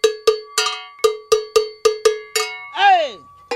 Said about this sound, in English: See, the bell is complete. Now all you have to do is weld it. Now this type of bell, they come in different, like high pitch, medium pitch, low pitch. You can hear how low this is.